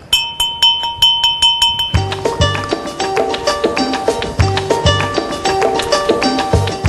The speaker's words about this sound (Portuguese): Vou tocar o sininho.